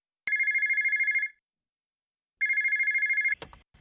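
A telephone bell rings in two long bursts of rapid trilling, loud, separated by about a second of silence, followed by a brief clatter as the ringing stops.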